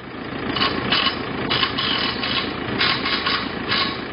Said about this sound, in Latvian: Kad traktors kādu gabaliņu paracis, vīri ar akumulatoru skrūgriežiem pie stabiem pieskrūvē smagus metāla stiepļu paneļus.